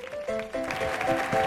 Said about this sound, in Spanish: Fuerte el aplauso